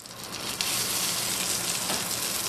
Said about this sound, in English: We are miles from the financial district inside the busy kitchen of New York catering company Sonier & Castle. That sizzle is the sound of swine near the end of the line. This is pork belly that we had cooked in duck fat earlier